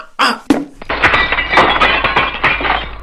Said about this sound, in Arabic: وفي إحدى الضربات التي قام بها قاسم للكرة أصابت الكرة زجاج الشباك وكسرته